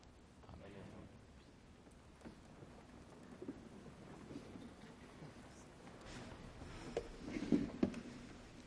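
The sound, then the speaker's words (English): Steady rain falls outside on a morning during a church worship service, a soft continuous hiss and patter filling the background at low volume, with a faint indistinct voice briefly rising near the end. “We are so glad you came to worship with us this rainy morning.”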